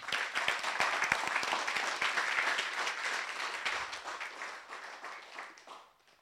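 A crowd breaks into steady applause, giving the Lord a clap after a prayer, many hands clapping together in a dense, sustained roar that gradually thins and fades out over about six seconds.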